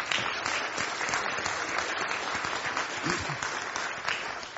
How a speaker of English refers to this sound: 16 of them are Eagle Scouts that are active and remain active with the troop. So I think all of them deserve a round of applause for that.